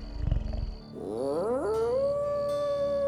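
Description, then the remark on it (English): A deep growling rumble rises into a long, wavering howl as a clawed, fanged werewolf-like creature, Guzman, howls at the moon. The howl climbs in pitch and then holds steady on a loud sustained note, alone. “Guzman howled at the moon and ran through the brush like something born in perfect unity with the Monty.”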